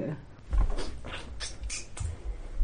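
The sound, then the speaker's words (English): A door creaks open, a series of short scraping squeaks and groans over a couple of seconds, with a few low thuds mixed in. “Open the door. I opened the door.”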